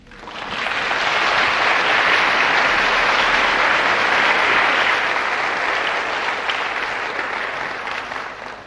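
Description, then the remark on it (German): An audience applauds a speaker as he begins his talk, a dense, even wash of many hands that swells in quickly, holds at full strength, then slowly tapers toward the end. “Die Worte waren zu viel und ich danke Ihnen sehr für den Applaus zu Beginn.”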